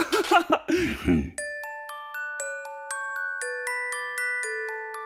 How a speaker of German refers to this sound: Wenn die Glöckchen leise klingeln, wenn die Wunschzettel gemalt werden und wenn ein kleiner Weihnachtsduft durch die Luft weht, dann weißt du, bald ist Weihnachten.